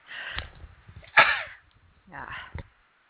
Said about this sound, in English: Well, sorry, guys. I didn't mean to sneeze in your ears here.